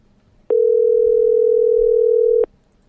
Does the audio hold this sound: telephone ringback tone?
yes